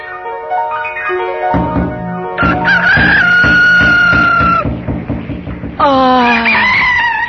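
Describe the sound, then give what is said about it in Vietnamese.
Roosters crow loudly to mark the hour, several long, drawn-out calls overlapping one after another until the end, with no talking. “Đêm lạc lối đến du sơn, gà eo ốc nhắc giờ hạ giới.”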